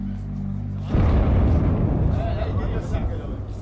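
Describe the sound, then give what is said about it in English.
A low rumble gives way to a sudden, loud explosion that roars into a sustained, crackling blast with heavy low-end rumble lasting several seconds: an airstrike by the US-led coalition fighting ISIS pounding Raqqa, sending plumes of smoke over rooftops. “Explosions cause plumes of smoke to rise over rooftops.”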